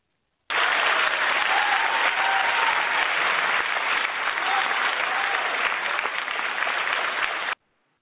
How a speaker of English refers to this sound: Hey, you know what? Folks, I'm going to give my own damn self an applause.